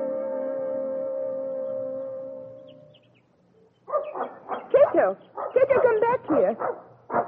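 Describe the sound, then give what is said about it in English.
A dog in a forest lets out a long, steady whine, then after a brief pause breaks into an excited string of short barks and yelping whimpers. “Poor dog. You want to talk, don't you?”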